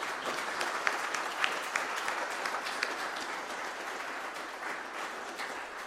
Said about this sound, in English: They did a lot, and I think they done really well, so I think we should give them a round of applause.